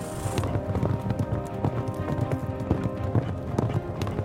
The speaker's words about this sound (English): Ride like our lives depend on it. We race out from Bannock to see how far our horses can carry us in an hour. Which means that for the next 60 minutes, I get to feel like an American outlaw.